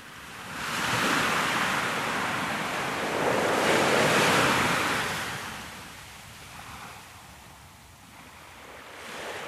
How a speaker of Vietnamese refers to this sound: Biển liền dâng sóng, để lộ một con đường dẫn xuống biển.